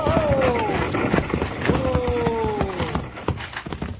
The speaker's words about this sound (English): Girl in that coach. We gotta stop those horses. We better do it before they reach the bend, Bill, or they'll go over.